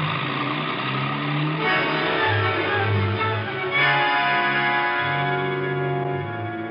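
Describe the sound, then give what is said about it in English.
A taxi cab engine revs hard and pulls away fast, heading for the Wrigley Building, its pitch rising and falling through several surges. Loud and continuous, with no voices. “Cabby, Wrigley Building, fast.”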